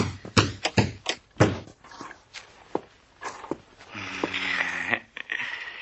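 Someone forces a door open: a rapid series of heavy thuds and knocks against wood, slowing down, then a rough, grinding stretch as the door gives way.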